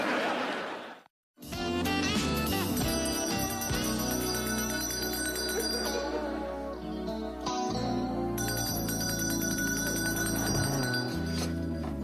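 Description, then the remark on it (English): A hand bell is rung by a person to call someone instead of calling out. It rings loudly and continuously, its bright, clattering peals filling the space for about ten seconds after a brief silent pause near the start. No one speaks. “My throat's a little scratchy, so I thought instead of calling you and wearing out my voice, I could just ring this bell.”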